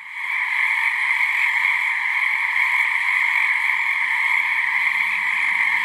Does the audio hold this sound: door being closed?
no